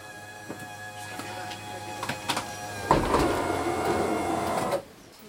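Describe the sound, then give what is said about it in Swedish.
The doors of a green, beautifully painted book bus (mobile library) are opened by its driver, also the librarian, at Skillinge bus station, Sweden, over a steady idling hum: a few soft clicks, then a loud mechanical whirring slide that runs for about two seconds before cutting off abruptly. “Och dörrarna öppnas av bussens chaufför, tillika bibliotekarie.”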